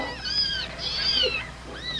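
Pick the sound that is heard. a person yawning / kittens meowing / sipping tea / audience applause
kittens meowing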